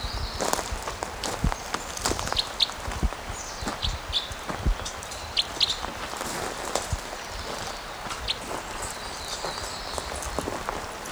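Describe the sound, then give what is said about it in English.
Footsteps crunch steadily over rough ground in an irregular walking rhythm as a person walks toward a bird near decoys, with faint high bird chirps scattered in the background and no talking. “Okay, so I'm walking towards him again.”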